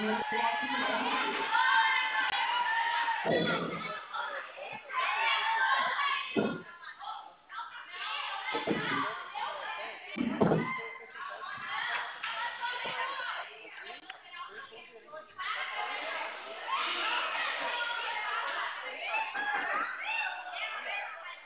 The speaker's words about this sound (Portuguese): Nossa, o povo não para de gritar, não.